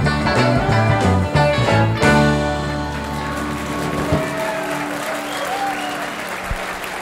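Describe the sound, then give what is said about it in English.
A song ends and applause swells, with a shrill whistle from someone in the audience rising and falling above the clapping. “Who was that whistling? That was a good whistle.”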